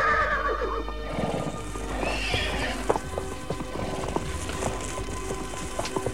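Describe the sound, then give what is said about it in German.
A horse whinnies loudly at the start, followed by steady hoof clip-clops over a low ambient rumble, with no one speaking, as the horses are saddled after breakfast and camp is cleared. “räumten die drei Fragezeichen, Donovan und Zieler, ihr Lager und sattelten die Pferde”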